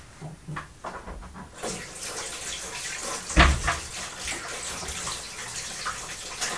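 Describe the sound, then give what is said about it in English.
Running water streams steadily from a tap, with splashing and rubbing as sticky hands are washed beneath it; one brief louder splash midway, no talking. “Shall we have a wash?”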